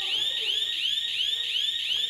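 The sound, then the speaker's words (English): A loud electronic alarm sounds continuously, its shrill tone sweeping up and down in a rapid repeating whoop with no pause, steady throughout, no voices heard. “We're obviously having some difficulties with the alarm.”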